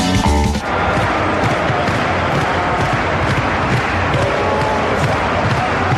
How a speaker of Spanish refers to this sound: Esto que escuchas de fondo, esas palmaditas al parqué, seguro que te suena, ¿no? Y este grito de miles de burgaleses diciendo sala la la la o San Pablo.